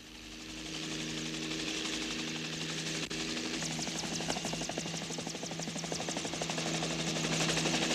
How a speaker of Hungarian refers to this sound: Helikopter! Gyertek integetni! Itt a segítség!